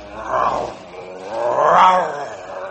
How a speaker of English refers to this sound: What's that? A grizzly bear. Shoot it! You build up fire. He not bother us.